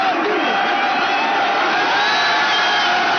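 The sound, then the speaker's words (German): A large crowd of demonstrators cheers loudly and continuously as they tear the lettering off the headquarters of the dissolved state party RCD, a dense roar of many voices with whoops and shouts rising out of the din, sustained without a break. “Demonstranten rissen unter großem Jubel den Schriftzug von der Parteizentrale ab.”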